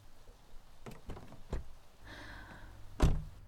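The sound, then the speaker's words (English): A car's door locks clunk open with a few quick mechanical thunks in a parking lot, then an electric window motor whirs briefly as the window closes before a firm thump as it seats. No talking. “He unlocked the car doors and started closing the window.”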